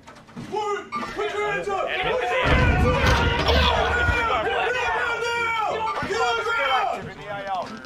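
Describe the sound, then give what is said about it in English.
A police-raid sound effect played through a microphone: heavy, rapid pounding on a door erupts midway, a loud burst of thuds lasting a second or two, while several agitated voices shout and talk over it throughout. “Fuck, I hear banging at my door.”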